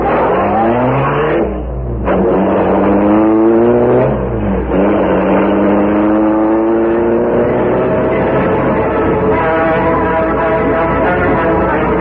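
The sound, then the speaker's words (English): A car engine roars loudly, its pitch climbing as it accelerates hard through a couple of gear changes, then holding a steady drone. No one speaks. “Take the car around to the rear.”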